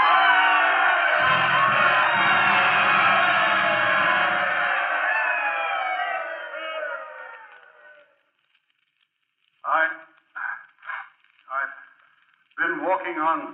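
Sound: stadium crowd cheering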